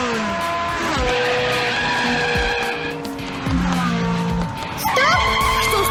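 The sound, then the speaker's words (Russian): A car engine revs and accelerates in a computer driving game while tires squeal and skid repeatedly, loud, with rising and falling pitch sweeps across the whole stretch. “газуй! Полный вперед! Нет, поворачивай налево! А теперь крути руль вправо!”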